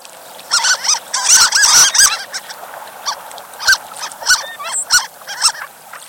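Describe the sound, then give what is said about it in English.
High, thin squeaking calls from harlequin ducks, a dense flurry of overlapping squeaks early on, then scattered single and paired squeaks over a faint steady background hiss. “Some ducks don't sound like ducks at all. Some, like the harlequin, squeak.”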